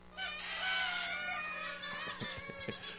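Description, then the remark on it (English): An audience blows party noisemaker horns at once, a dense, buzzing, reedy honking with overlapping squawks that wobble in pitch, continuous for a few seconds, loud. “But anybody you got one that blows? I just need to hear them real fast here.”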